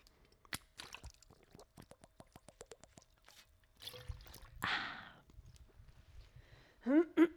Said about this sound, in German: So, ich muss jetzt erstmal einen Schluck trinken.